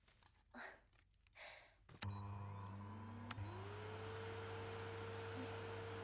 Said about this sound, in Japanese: そしたら掃除機あった。スイッチはと、